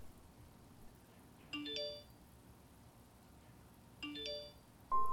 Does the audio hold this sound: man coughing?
no